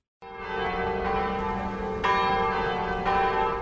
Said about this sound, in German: Die Glocken der Stanislaus-Basilika in Vilnius, der Kathedrale der litauischen Hauptstadt. Sonntags läuten hier die Glocken beinahe im Stundentakt zu 7 Gottesdiensten.